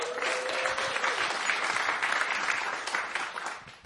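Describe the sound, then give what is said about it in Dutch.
A crowd applauds steadily for about four seconds, a dense, even patter of many hands clapping that holds its level before tapering slightly at the end, with a faint whistle-like tone early on, as a vocalist from Latvia is introduced at a jazz trio concert. “Geef haar een applaus.”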